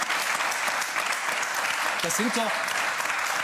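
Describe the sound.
Steady, dense applause from an audience at a political discussion, applauding remarks on corruption, a broad hiss of many clapping hands, with a brief voice or call rising through it partway in.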